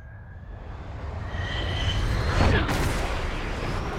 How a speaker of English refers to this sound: That's all you need to hear is the plane sounds. Plane stuff.